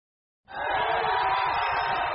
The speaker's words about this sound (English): Rapturous applause for India's now Prime Minister, Narendra Modi. However, look closely and you'll see it's not really him, but a hologram.